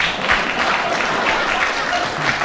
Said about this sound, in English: If so, clap.